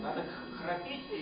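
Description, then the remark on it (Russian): A steady buzzing hum voiced low in the throat by people at a seminar, held continuously for just over a second with a slightly rough, droning texture. “Нет, надо именно горлом произносить жужжащий звук.”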